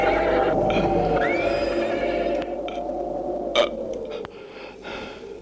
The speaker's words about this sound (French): Luc détache son cheval et monte en selle.